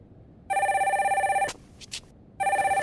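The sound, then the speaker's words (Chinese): A telephone rings loudly and close by with a rapid, warbling trill, pauses for a sharp click and some brief rustling, then starts ringing again. No one speaks. “亲爱的，你的电话。”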